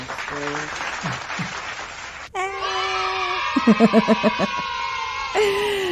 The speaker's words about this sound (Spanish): Llegaron tarde los aplausos. Los aplausos son.